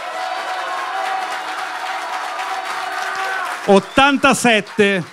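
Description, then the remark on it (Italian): An audience applauds for the applause meter after a rapper's performance, in a steady, dense wash of clapping for several seconds, then the clapping cuts away as a man's voice begins speaking in short bursts. “e chiediamo al pubblico di ritornare ad applaudire per l'applausometro.”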